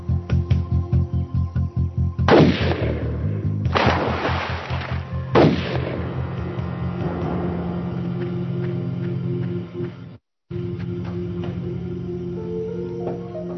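Three loud rifle gunshots crack out a second or two apart, each followed by a short echoing decay, over a steady low engine-like hum that continues after the shots. A man fires the rifle beside a stopped car on a road through woods in Tuscarawas County, Ohio.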